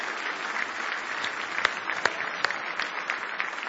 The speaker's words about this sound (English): Now, how many of you come to be a blessing and to receive something today? Praise the Lord. If you will, give the Lord a real big hand clap of praise this morning.